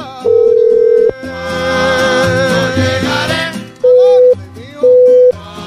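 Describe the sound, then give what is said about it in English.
A telephone busy signal: a steady electronic tone pulses on and off, broken partway through by a louder stretch of mixed, music-like sound before two more short beeps return. “Yeah, they might just leave the phone off the hook.”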